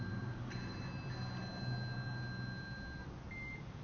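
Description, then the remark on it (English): A mobile phone rings on a balcony with thin, steady electronic tones that sit above a constant outdoor rumble, followed near the end by a short, higher chirp. No one speaks. “That's someone's phone. Someone's phone's a-ringing.”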